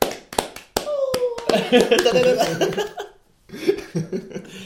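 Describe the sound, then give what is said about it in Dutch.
A handful of sharp, separate hand claps ring out at the start, then give way to an excited vocal 'ooh', laughter and chatter, with the voices continuing after a brief pause. “Dat Oeh, applaus.”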